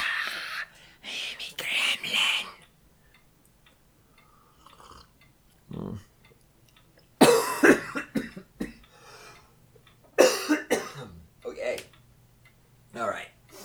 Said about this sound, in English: Thanks for coughing in our ears, great one.